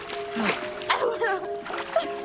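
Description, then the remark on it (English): Water splashes and sloshes in a few broad bursts, moderately loud, as a wave splashes over two people kissing in the water, with voices and a sustained tonal sound running underneath. “A wave splashes them as they kiss.”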